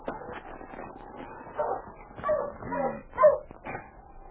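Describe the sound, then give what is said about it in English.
Sled dogs of a dog team whimper and bark in a cluster of short, excited yips and whines, several bursts overlapping over a few seconds, moderately loud with no talking. “A couple of minutes later, Preston pulled up beside Chuck's dog sled.”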